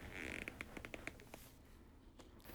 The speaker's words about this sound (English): John shifted, clothes rustled, leather creaked, plastic groaned.